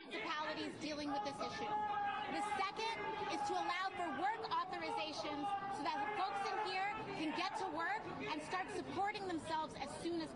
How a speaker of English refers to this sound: So for those that can't hear over AOC's bullshit, there's a whole audience of people screaming to close the border.